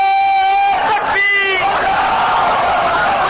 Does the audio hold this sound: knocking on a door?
no